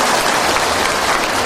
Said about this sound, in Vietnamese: À, để cho anh chàng pháo tay luôn.